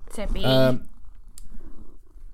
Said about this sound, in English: Oh, it's for goodness sake, Sebastian. Apologies to our editor. He just pushed over the microphone. Kitty issues.